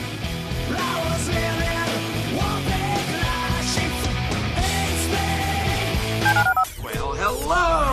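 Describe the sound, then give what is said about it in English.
A rapid sequence of telephone keypad DTMF tones dialing the HRNP listener line, loud and layered over busy music. Near the end the tones stop abruptly and a sweeping, warbling electronic sound takes over. “Dial the phone.”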